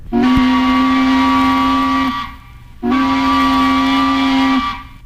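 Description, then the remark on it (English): Two long, loud blasts of a tugboat whistle, each steady and harmonically rich for about two seconds, separated by a short pause, with no voices. “Even the sharp whistle of a tugboat.”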